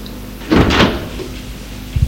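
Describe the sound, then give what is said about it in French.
A door opens with a brief rattling scrape of the handle and hinge, followed a moment later by a soft low thud. No one speaks. “Il est réveillé par la porte qui s'est ouverte.”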